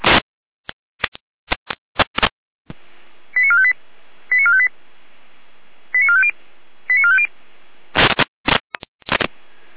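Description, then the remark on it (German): A radio alarm tone sequence alerting the Krondorf and Saalfeld fire brigades to a door emergency opening in Saalfeld: four short bursts of quick stepped electronic beeps over steady radio hiss, framed by loud crackling squelch clicks at the start and end. “Leitst du hier einen Alarmruf?”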